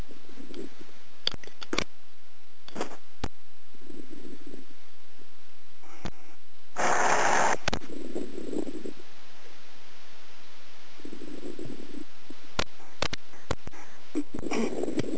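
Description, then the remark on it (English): Slow, long, deep breaths drawn in and out in a steady cycle, soft, with a few faint clicks on the phone line and rustles scattered between them and no talking. “So now, I just began long, deep breathing.”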